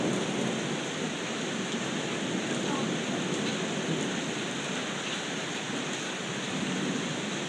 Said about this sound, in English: Unbelievable rain.